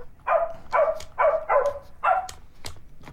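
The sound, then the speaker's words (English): A circuit-bent Baby Einstein kid's toy piano's electronic dog bark stutters five times in a quick, even rhythm, fairly loud, followed by a few sharp clicks, with no voices. “he circuit bent a kid's toy, a baby Einstein piano.”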